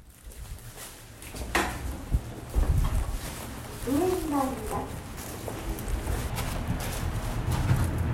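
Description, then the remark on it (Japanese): Sounds of riding the Glover Sky Road inclined elevator in Nagasaki, Japan, 160 metres long at a 31-degree incline: scattered mechanical clunks and knocks over a steady low rumble, with a brief melodic tonal phrase midway and faint voices in the background. “さあ、路面電車の終点石橋から徒歩2分の場所にあるグラバースカイロード、ちょっと乗ってみたその音をお届けします。”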